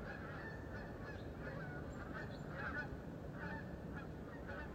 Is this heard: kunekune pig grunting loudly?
no